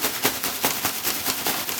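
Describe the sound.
A steady hiss with quick soft pattering pulses, someone imitating falling rain, continuing evenly for a couple of seconds with no talking.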